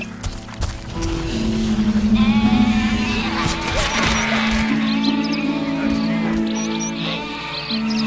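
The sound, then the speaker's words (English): Wavering, bleating cries of sheep sound fairly loud over a continuous tonal backdrop, several calls blending together for the whole stretch, with some voices mixed in. “Hey, are those creatures for sale? Wolf, sheep.”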